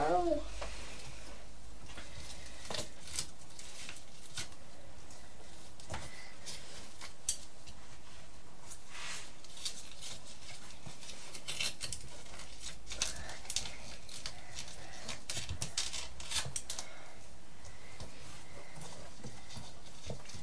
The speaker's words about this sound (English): These scissors will perhaps cut round easier, Thomas, because these are straight ones.